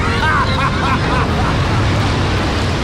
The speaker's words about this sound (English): As Claw's ship rockets away, its engines leave billowing trails.